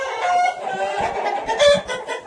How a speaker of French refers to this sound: Moi, c'est les coqs qui se préparent.